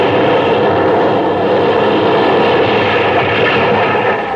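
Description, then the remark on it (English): A large ocean wave crashes over the boat Spindrift: a loud, steady roaring rush of water that surges without a break for about four seconds, with no voices. “The wave washed me over.”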